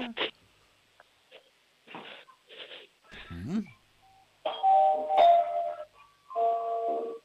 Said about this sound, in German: Bitte, was habt denn ihr für eine coole Türklingel? Die spielt ja eine ganze Melodie ab.